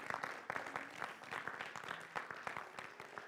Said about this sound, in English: Would you give the Lord a clap offering? Yeah. Come on, God's good. Hallelujah.